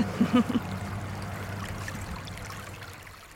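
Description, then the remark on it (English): A few wet, squelching footsteps in mud on a muddy clay walk at Harewoods, soft and watery, clustered at the start before fading into a steady low rumble as the walkers come through a kissing gate. Nobody speaks. “So we've just squelched our way through a little muddy bit and come through a kissing gate”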